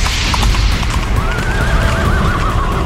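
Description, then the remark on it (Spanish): A horse whinnies with a long, wavering cry over a dense, loud rumble of hooves clip-clopping, the galloping noise continuous throughout. “Y el cuarto viene en caballo negro.”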